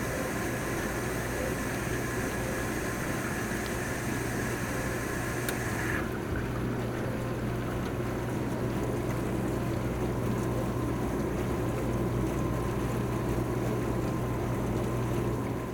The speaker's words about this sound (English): All right, enough noise of the dishwasher.